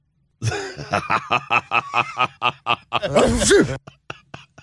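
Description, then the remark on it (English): A cartoonish fake sneeze sound effect played from a show's sound system: a string of about a dozen quick, rhythmic breathy gasps building up, then one loud, harsh burst, followed by a few faint trailing clicks. “That is not a good fake sneeze.”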